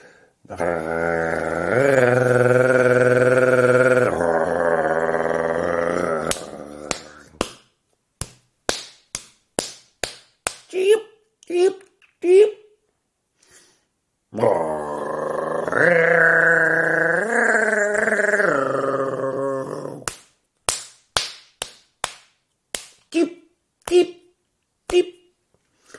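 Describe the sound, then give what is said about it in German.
Sharp, dry wing claps of a European nightjar in irregular bursts, some singly and some in quick pairs, each following a long, loud, buzzing voice-like drone that rises and falls. The pattern repeats twice. “die auch so ein Flügelklappen hat. Und das macht auch der Ziegenmelker.”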